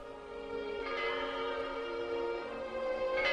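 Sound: memorial bells tolling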